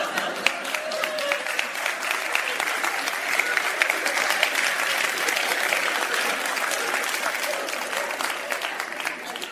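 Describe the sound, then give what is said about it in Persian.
A crowd applauds steadily for nearly ten seconds, a dense, even patter of many hands clapping at a moderate, consistent loudness with no voices standing out. “تو دست زدن هم اختلاف فاز دارن ها.”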